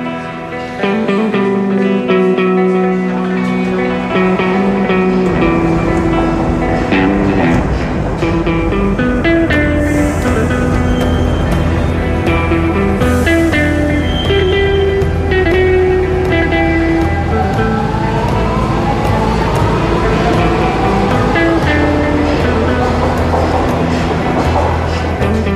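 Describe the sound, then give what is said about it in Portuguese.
A Lisbon Metro train at Martim Muniz station rumbles loudly and steadily, its motors whining in rising, stepped tones, while a faint amplified station voice warns passengers to mind the doors amid the station noise. “Ei-los, os lisboetas, entrando e saindo dos comboios, enquanto a voz amplificada do comando da estação os avisa para terem cuidado com as portas.”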